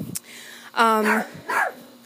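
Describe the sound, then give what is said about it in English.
A chihuahua lets out two sharp, high-pitched yappy barks during an evening dog walk at about 8 p.m., the first longer and more tonal, with a brief shuffle of outdoor noise before them. “This is why this ritual is so stressful, because I have a chihuahua who likes to bark at everything, which means I miscount every step that I take.”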